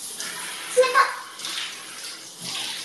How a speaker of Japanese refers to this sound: 冷た！ちょっと入りすぎたかもしんない。冷たいなら、シャワーが全然、お湯にならんし